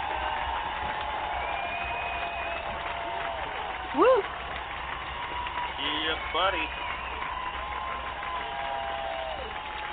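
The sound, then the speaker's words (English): A crowd claps and cheers steadily for a DJ guest for the full ten seconds, a dense, unbroken wash of applause. Scattered whoops and a couple of shouted voices rise briefly above it. “ladies and gentlemen, give it up, y'all. Give it up. Oh, my gosh. Keep it up. Keep it up. Clap it up. Clap it up.”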